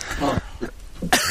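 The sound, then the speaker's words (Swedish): A few harsh coughs in quick succession, loud and abrupt, with short gaps between bursts and a final sharp cough at the end. “Ursäkta, hosta lite i öronen på er.”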